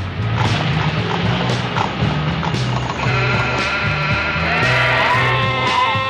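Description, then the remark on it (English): Sheep bleat repeatedly in a loud, dense chorus, wavering calls overlapping one another, with a busy farmyard clatter underneath and no pause throughout. “Over there is the sheep district.”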